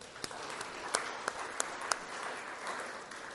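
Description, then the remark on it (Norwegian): A church audience of the Misjonsforbundet applauds steadily from start to finish, a dense wash of many hands clapping with a few sharper, louder claps standing out. “Nå skulle jeg stått her og klappe for dere, men jeg tror vi tar en klapp sammen for det.”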